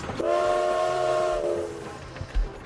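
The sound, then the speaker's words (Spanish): A train whistle sounds one sustained, steady multi-tone blast over a continuous mechanical rumble as the train departs from a station platform, then fades, leaving the rumble and a couple of low thumps. No one speaks. “Justo cuando el tren partía, el inspector Fix avanzaba por el andén, corriendo hacia ellos.”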